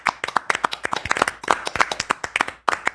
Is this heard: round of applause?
yes